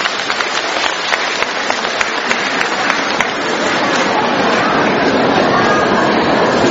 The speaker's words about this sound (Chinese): 让我们用掌声感谢慈悲的卢军宏台长。